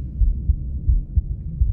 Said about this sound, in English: This is a recording of my heartbeat.